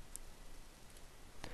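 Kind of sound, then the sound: tool, computer mouse clicking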